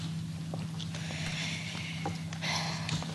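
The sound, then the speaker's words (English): Soft, airy breaths huffing into a microphone as Vice President Kamala Harris steps up to the mic, a few uneven puffs that swell louder toward the end, over a steady low electrical hum with no talking. “And you can even hear her breathing when stepping up to the mic.”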